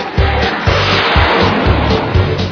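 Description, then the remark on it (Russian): A Zhiguli car engine revs repeatedly in quick bursts, about twice a second, loud over a steady hissing, rumbling background, with no one talking. “Машина зверь, слушай.”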